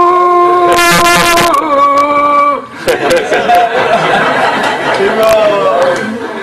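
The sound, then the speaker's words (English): A person belts out a loud, drawn-out cow call, the call once used to summon cows at milking time, a sustained wavering vocal tone lasting a couple of seconds, then several people break into chatter and laughter. “That was a cow call.”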